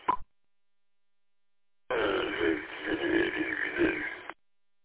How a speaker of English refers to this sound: Listen to me dog snoring.